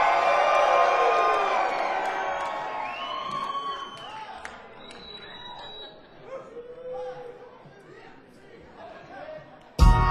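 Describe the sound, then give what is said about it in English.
A concert crowd cheers and roars, loudest at the start with high whoops, yells and whistles, then gradually fades into scattered shouts and chatter before a sudden sharp burst at the end. “If you're having a good time, let me just hear you show your love and make some noise!”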